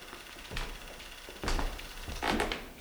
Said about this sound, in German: Nach wenigen Minuten war das Filmmaterial durchgelaufen und die leere Filmrolle drehte sich ratternd weiter